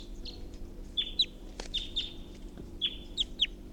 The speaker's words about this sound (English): And there's a wild bird here, just perched in a tall pine above the net, pointed at 348.